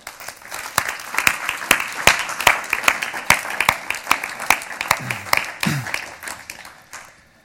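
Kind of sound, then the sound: crowd, warm audience applause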